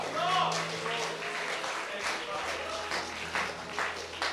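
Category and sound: crowd, church audience cheering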